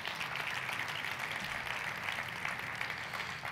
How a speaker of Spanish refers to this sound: ¿Cuántos pueden dar un aplauso al Señor por eso?